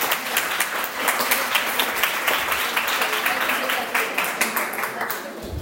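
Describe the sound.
An audience breaks into steady applause, a dense wash of many hands clapping at an even loudness for several seconds, with a murmur of voices blended underneath.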